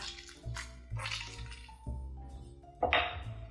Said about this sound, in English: I'm gonna cut them in half and start using my citrus reamer to just catch as much juice as possible in this quarter cup measure.